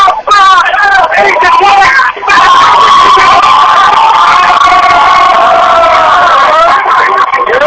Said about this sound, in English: Alright, what you're listening to is propaganda right out of Stalin and Trotsky and Lenin. They're in there yelling and chanting all this stuff.